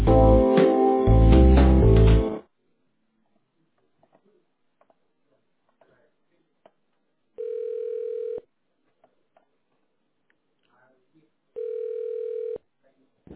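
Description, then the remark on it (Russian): A recorded Russian voice greeting callers to the Kopirka photocopy centre network speaks briefly, then after a pause two long, steady telephone ringing tones sound at a medium pitch, each about a second long and spaced several seconds apart, while the caller waits for an operator. “Если вы знаете внутренний номер абонента, наберите его в тональном режиме или дождитесь ответа оператора.”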